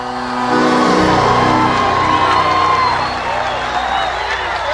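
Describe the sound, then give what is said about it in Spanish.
A loud, high-pitched sapucay, the long wavering celebratory yell of chamamé, rises and trills over a noisy, cheering crowd, sustained for several seconds, given as the final shout of a Radio Nacional LT12 broadcast from Paso de los Libres, Corrientes. “Último grito, último Sapucay, desde aquí, desde Radio Nacional LT12, Paso de los Libres.”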